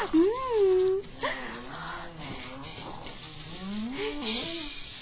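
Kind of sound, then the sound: human body sound, snoring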